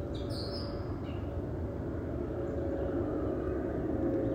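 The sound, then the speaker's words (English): A steady low drone of an airplane passing overhead, a continuous rumble with a faint hum, while a few birds chirp briefly early on. “I'm looking for the plane that's flying overhead.”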